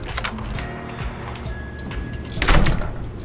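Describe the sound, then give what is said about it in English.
A motel room door rattles and scrapes as a man struggles with it, several knocks and jiggles building to a louder bang as it is shoved open, with no voices. “If he could ever get the door open.”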